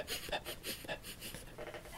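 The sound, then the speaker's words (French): A voice imitates two kiwi birds sniffing and snuffling at people's feet while they walk back on foot: quick, breathy snorts in a steady rhythm, about eight or nine puffs in two seconds, close and fairly quiet, like a small dog sniffing. “Et d'un seul coup, ben en fait, on avait deux kiwis qui étaient dans nos pieds, qui étaient en train de nous renifler, là”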